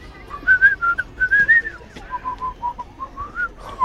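A person whistles a lively tune, a steady run of short, bright notes rising and falling in pitch, with no talking over it.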